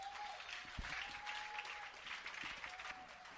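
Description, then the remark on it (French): An audience claps steadily for several seconds, a dense, continuous patter of many hands, with a faint sustained tone running underneath and no talking over it. “Est-ce qu'on peut l'applaudir dans cet endroit?”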